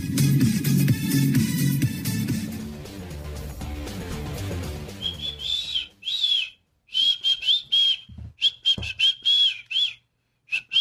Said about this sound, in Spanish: Sí. Muy desganado ese chiflido.